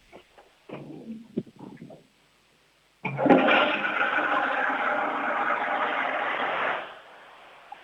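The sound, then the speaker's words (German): A toilet flushes loudly: a few clunks from the handle, a brief pause, then a roaring rush of water for about four seconds that fades into a soft trickle. “Die war aber schön laut, deine Klospülung.”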